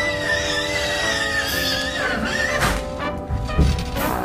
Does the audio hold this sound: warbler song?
no